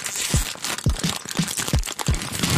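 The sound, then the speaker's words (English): Close, loud crunching of potato chips in a steady chewing rhythm, about six bites, over a continuous crackly crinkling of a chip bag. No one speaks. “Do you like loudly crunching potato chips and crinkling the bag?”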